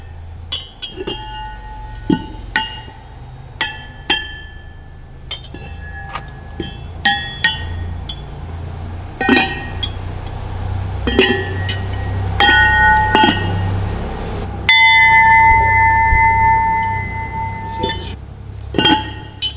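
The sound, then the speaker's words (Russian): Small bells are struck one after another at an uneven pace to test their pitch, each sharp metallic hit ringing out with a clear sustained tone, fairly loud over a low background rumble. “тебе зачем тебе нужен колокол?”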